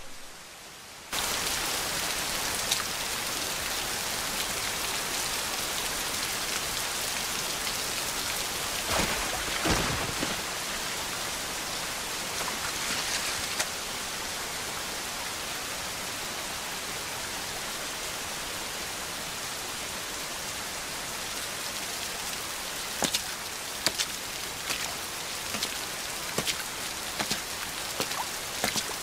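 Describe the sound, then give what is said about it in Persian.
Steady heavy rain from a storm pours down for the whole stretch, a dense hiss of drops hitting surfaces with occasional louder splashes, constant with no voices. “توفانو درست کردی تا ما رو تو ساختمون گیر بندازی، درسته تایفون؟”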